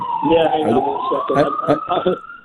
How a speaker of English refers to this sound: We're getting the sirens here.